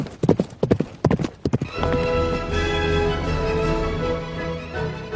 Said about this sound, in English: From out of the past come the thundering hoofbeats of the great horse Silver, the Lone Ranger rides again.